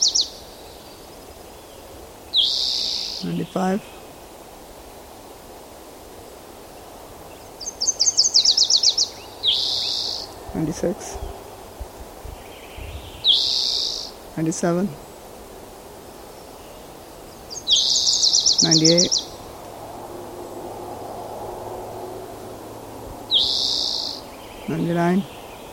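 Bird calls repeat every few seconds: high, thin chirps and quick buzzy trills, some with sharp downward-sweeping notes, over a steady low background hiss and insect-like hum. The bird was collected in open mixed conifer forest with ponderosa pine and incense cedar, at 38.21204° N, 120.38390° W.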